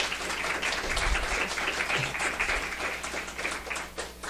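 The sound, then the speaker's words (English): An audience breaks into a round of applause for panel presenters, many hands clapping in a dense, steady wash that holds for a few seconds and starts to thin toward the end. “Can we give just a quick round of applause to our presenters?”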